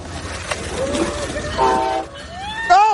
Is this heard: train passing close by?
yes